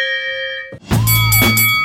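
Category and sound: household object, hand bell being rung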